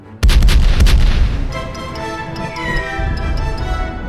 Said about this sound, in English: The 3 cannons roared in a neat line, the black smoke of the discharge blocking their view for a few moments.